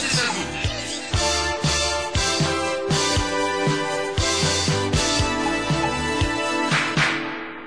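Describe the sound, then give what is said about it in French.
An upbeat dance track selected by a disc jockey for dancing plays loud and steady, with a punchy regular beat, thumping bass and bright layered instruments, ending with a brief fade at the close. “De tous les temps, et pour toujours, ce sont les grands succès que votre disque jockey a sélectionné pour vous faire danser.”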